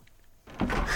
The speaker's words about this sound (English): The door.